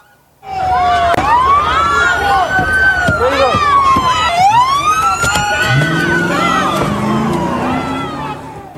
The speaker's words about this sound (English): tried to block a U.S. Marshal bus from driving through the crowd. See the horn honking, the face-to-face between the bus and the protesters, not to mention the flashbangs going off in the background.